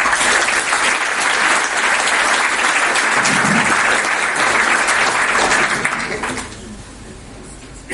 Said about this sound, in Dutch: Dus graag u wel gemeente applaus voor het fantastische panel. Veel plezier mee.